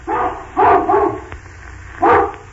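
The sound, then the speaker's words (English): An old hound dog barks several times: a long, hoarse bark, then a quick pair, then after a pause one more deep woof, with no one talking. “An old hound dog with a very old and very doggy bark, like this.”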